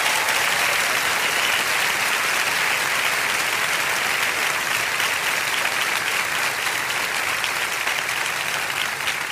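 Sustained applause of gratitude from a large audience in a church, a dense, steady wash of many hands clapping at an even, loud level for the whole stretch, with no voices standing out.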